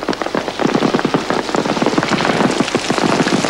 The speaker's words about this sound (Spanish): Las gotas aumentan formando círculos concéntricos sobre la superficie de un canal. El temporal arrecia y el sonido de la lluvia se confunde con los disparos de algún enfrentamiento lejano.